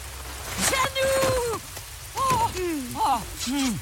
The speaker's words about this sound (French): Et elle vit dans une région où il pleut tout le temps